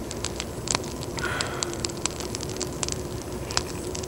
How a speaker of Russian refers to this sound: Поближе к огню придвинь. Вот так.